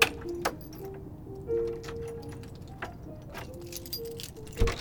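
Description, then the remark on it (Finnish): A daughter unlocks a drawer with a key in the house where her late mother lived: the key rattles and turns in the lock, giving a few sharp metallic clicks and light jingles over a low steady hum, ending with a louder click. “Tytär avaa avaimella laatikon.”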